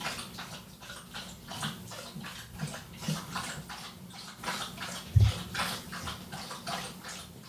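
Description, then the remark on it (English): A dog laps up water, a steady run of quick, wet slurping splashes repeating in a loose rhythm for several seconds, with no voices. “Did you know he's never had water before in his life and he's now going to make up for all those years?”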